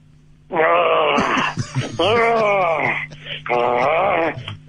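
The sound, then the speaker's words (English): A person growls like a lion in three long, loud, rumbling bursts with short pauses between them, a voice imitating the animal's roar with no other talk. “I want you to growl for me like a lion, the king of the jungle.”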